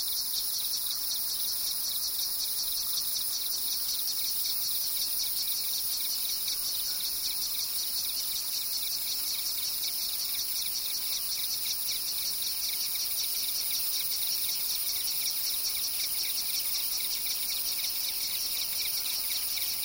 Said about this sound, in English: In the lower valleys, we always heard crickets and cicadas. They hummed and buzzed and made complex phasing rhythm patterns.